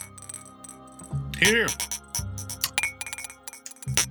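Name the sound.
glasses clinking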